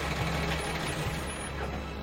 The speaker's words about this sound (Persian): بلند میشه، میره سمت ماشین خاتون. ماشین رضا هم از راه میرسه.